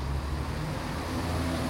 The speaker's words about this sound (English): Hey, there's the bus! All right! Yay, bus! Woohoo!